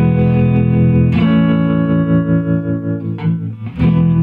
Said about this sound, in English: It's just built-in vibrato and the some reverb. Stratocaster. Three chords. I'll add a fourth one.